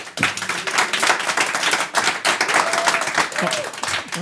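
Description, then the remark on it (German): A live audience in a hall at the Latin America Day of Außenwirtschaft Austria applauds steadily, dense overlapping claps forming a continuous wash of noise for a few seconds, with a few faint voices and cheers mixed in. “Und ich bitte mal das Publikum, das schon da ist und den Weg in den Saal gefunden hat, sich ein bisschen bemerkbar zu machen, dass man auch hört, dass wir vor Publikum aufnehmen.”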